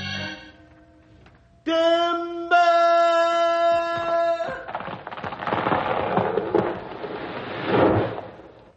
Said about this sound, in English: The tree hit the ground so hard it knocked a big flame of fire out of it.